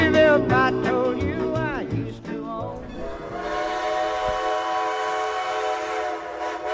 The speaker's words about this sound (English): Would you believe if I told you I used to own this train?